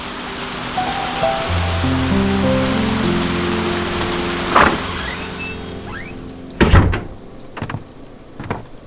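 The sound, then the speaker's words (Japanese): Steady rain hisses as the badly fitting old wooden door of an old coffee shop groans open with a long, drawn-out creak, followed by a few heavy knocks and clunks as the rain noise drops away. “立て付けの悪い古い木の扉を開けると、店の中は薄暗く、なかなか目が慣れなかった。”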